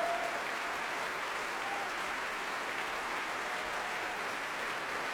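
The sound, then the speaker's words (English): Sustained applause from a large opera house audience for the Royal Opera Chorus after a Ring performance conducted by Daniel Barenboim. A dense, even wash of clapping holds steady at moderate volume for the whole stretch, with no voices rising above it. “Applause now for the Royal Opera Chorus, the men in the third act, but there were women too in the second act.”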